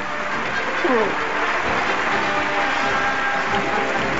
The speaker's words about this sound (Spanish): Pedro Almodóvar, que sube emocionado, se quita las gafas y va a dar su primer, de momento, discurso de la noche. Escuchamos la ovación de la platea.